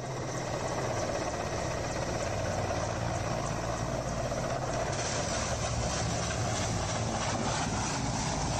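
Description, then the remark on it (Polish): A loud, steady aircraft engine roar fills the whole stretch, dense and unbroken, as a plane flies very close to a large jumbo jet on a filming day. No voices are heard. “Pilot tego samolotu podleciał za blisko wielkiego jumbo jeta?”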